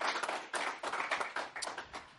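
A short round of applause from a group, steady overlapping claps forming a dense, even patter at moderate loudness with no talking.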